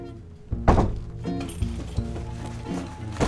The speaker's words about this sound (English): As I push open this grotty, graffitied door to my apartment building, I pause. This is the sound. A door opening. I push it again.